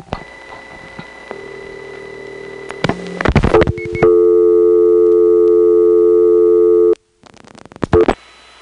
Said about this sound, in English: Here's an example of that to show you what I mean. I'm going to get a dial tone and dial 6.